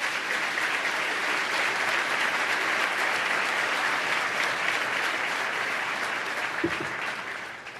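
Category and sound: crowd, audience applause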